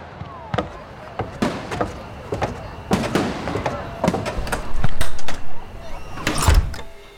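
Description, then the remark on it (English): Fireworks crack and bang in Boston in a rapid, irregular series of sharp explosions, some loud, others fainter, over a continuous noisy background with a murmur of voices. “order the troops to put out the fires, confiscate the fireworks, close the taverns, and find that criminal Franklin.”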